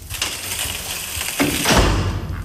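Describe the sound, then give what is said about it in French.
A heavy metal door on a sandblasting machine, used to strip grease from parts before painting in a machining and paint-preparation workshop, swings shut over steady industrial hiss, with a short scraping sweep and then a dull, low thud as it closes. “Alors, vous fermez la porte.”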